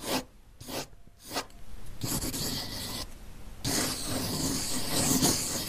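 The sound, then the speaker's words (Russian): Colored pencils scratch across a sheet torn from a notebook as someone draws in the dark: first three quick separate strokes, then steady continuous shading that grows louder and denser toward the end. No voices. “Потом она вынула из пенала цветные карандаши и принялась рисовать.”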